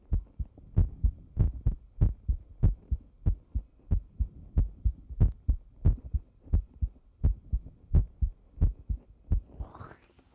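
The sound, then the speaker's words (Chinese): A rapid heartbeat, the listener's fast-beating heart in a massage room, thumps steadily, low muffled beats repeating about twice a second with no voices, ending with a faint rising rustle. “心跳好快呀，你在紧张吗？”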